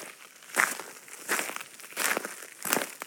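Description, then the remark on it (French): Four crunching footsteps at a slow, steady pace through the Bois des Lynces, a garrigue woodland about 20 km from Nîmes, each a crackly rustle of dry leaves and twigs underfoot, with no voices. “Là, on nous entend marcher dans le bois des Lynces.”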